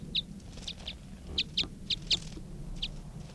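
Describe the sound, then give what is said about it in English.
A wild bird gives a string of short, high-pitched chirps, about eight in a loose, uneven rhythm, moderately close over a steady low outdoor rumble. “That was a wild bird.”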